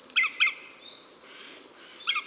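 Calls of a real green woodpecker, not an imitation: three sharp, bright bird notes, two in quick succession then one more after a pause, over a steady high insect-like hiss.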